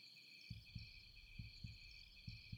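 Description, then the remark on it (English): A steady heartbeat thuds in low, muffled lub-dub pairs, three beats at a calm, even pace, with a faint high-pitched whine hanging constantly in the background. “Can you feel my heart beating?”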